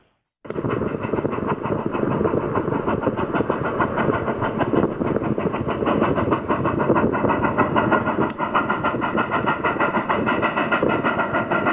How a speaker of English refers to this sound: Well, you can tell it's a train, yes. That's the sound of the famous Durango and Silverton narrow gauge train arriving in Silverton, Colorado.